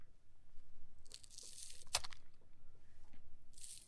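A knife chops scallions the wrong way, straight down, crushing the plant cells: crisp, crunchy bursts of cutting with one sharp, loud thwack of the blade striking the board midway, and no voices.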